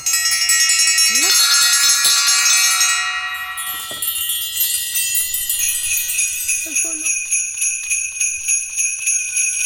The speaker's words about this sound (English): These are called elephant bells.